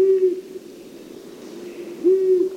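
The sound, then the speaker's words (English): A long-eared owl gives two low, even hoots, each a brief steady tone, separated by a pause of nearly two seconds with faint background hiss between them and no voices. “long-eareds further enhance their invisibility by closing their orange eyes and stretching their bodies as close to the vertical as possible.”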